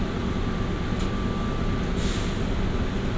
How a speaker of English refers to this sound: aboard the plane train. Please hold on. This train is departing.